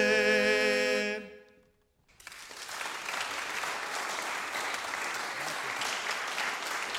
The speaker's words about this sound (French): Voilà, ça mérite effectivement des applaudissements.